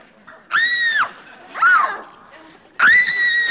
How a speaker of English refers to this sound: Is that a scream? Oh, that was for me. Where do you think you're going? To answer that scream.